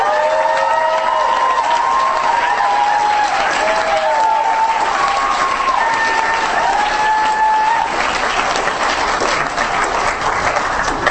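A crowd at an event applauds the host committee steadily for about eleven seconds, a dense wash of clapping with scattered cheers and whoops rising over it, loud and sustained throughout.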